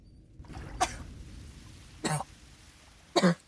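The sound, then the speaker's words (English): Three harsh, strained coughs from a woman coughing up blood come one at a time with pauses between them, fairly loud over a low, steady rumble of background noise, with no talking. “covers her mouth with a hand as she coughs up blood,”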